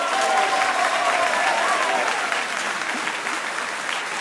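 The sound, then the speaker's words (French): An audience claps steadily for the day's two selected contestants, a dense, even patter of many hands at a fairly loud level, easing slightly toward the end, with a faint tonal whistle or murmur underneath. “On les applaudit.”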